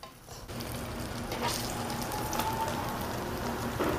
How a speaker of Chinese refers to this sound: 边煎的同时，哦，稍微边转动一下这个面皮，哦，我们煎到这个面皮两面金黄上色，就可以把它给盛出来。我们这个是以中小火的状态煎到它呈现金黄色的一个状态。